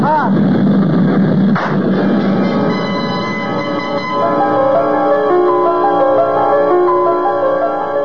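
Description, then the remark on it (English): A single sharp gunshot cracks out early on, cutting through the loud, steady droning noise of an airplane engine with whining, wavering tones that continue to the end. “I tried to jerk my head away frantically at the last moment, but I could feel the bullet smash into my skull and then burst in a fountain of searing sparks.”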